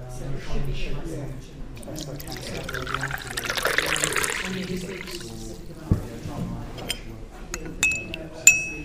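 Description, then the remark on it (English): Tea pours in a steady rushing trickle, followed by a few bright, high-pitched clinks of china teacups against saucers, performed as radio spot effects for a tea scene, done live with the actors and recorded. Low, muffled voices murmur underneath. “A couple of scenes where it says tea things. Now that means this noise here.”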